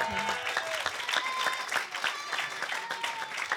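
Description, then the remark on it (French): A burst of applause from a small crowd for a correct quiz answer, steady clapping filling the whole few seconds at moderate volume, with faint murmurs mixed in. “Bravo, un point, applaudissements.”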